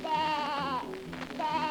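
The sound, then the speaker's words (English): A sheep bleats twice, each call a loud, wavering, quavering baa, separated by a brief pause filled with faint rustling. “Then the sheep.”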